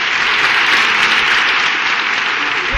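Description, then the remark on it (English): Steady, loud audience applause for a presidential candidate, a dense wash of many hands clapping at once with no gaps, sustained evenly for a few seconds without any voices standing out. “Please hold your applause till the very end.”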